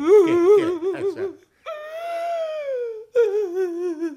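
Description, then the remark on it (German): A kobold character's voice cries in exaggerated, whimpering sobs: a trembling, wavering wail, then a long drawn-out high moan, then more shaky sobbing, loud with no other sounds. “So leid, dass ich weinen muss.”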